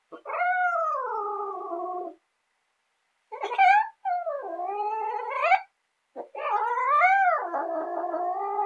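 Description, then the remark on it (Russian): A cat gives three long, drawn-out meows, each rising and falling in pitch, loud, with short silent pauses between them and no talking. “А наш котишка-плутишка пирожок уволок, припрятал под порог. Сам к нам на руки прыг и мур-мур-мур, мурлык.”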